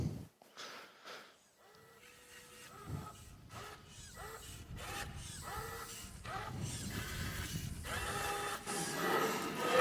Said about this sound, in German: Und ich habe hier transparente CMYK-Farbe verwendet in den Dosen. Einfach um, genau, und habe einfach ein paar Testbilder gedruckt. Lass uns das mal anschauen. Naja, erinnert schon an einen Drucker. Überraschung.